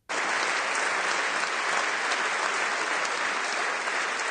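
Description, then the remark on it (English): Loud, sustained applause in the Canadian Parliament for the sergeant-at-arms who took down a shooter, a dense steady roar of clapping that starts abruptly and holds at full strength throughout, with no speech over it. “The sound here of thunderous applause for the sergeant-at-arms who took down the shooter in Canada.”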